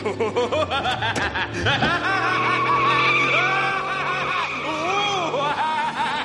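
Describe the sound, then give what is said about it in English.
A luxury car's tires screech loudly toward a child for several seconds, a sustained high squeal layered over a busy mix of voices and laughter-like sounds. “I was playing in my wholesome childlike way, little realizing that I was about to be struck down by the luxury car of death.”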